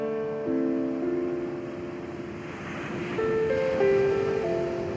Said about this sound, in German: Das Meer rauscht ruhig und gleichmäßig.